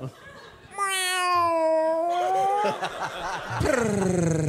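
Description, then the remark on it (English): A person imitates a cat's meow with a long, drawn-out, wavering call, then follows with a second sharper meow, loud, with a bit of laughter-like noise between them. “Do we all start doing it? Meow.”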